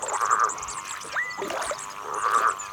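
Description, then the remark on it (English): A frog calls from just outside a wildlife hide in short bursts of bright, trilling croaks, two clear call bouts with a pause between, over faint ambient chirps and no talking. “It is most definitely a frog.”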